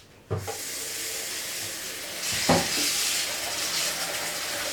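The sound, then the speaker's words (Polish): Chicken breast coated in instant-noodle seasoning hits a hot frying pan with a sudden burst of sizzling that settles into a steady frying hiss, with a couple of soft clunks and a second surge of crackling partway through. “I przekładamy ją na patelnię, bo trzeba to podsmażyć mięsko.”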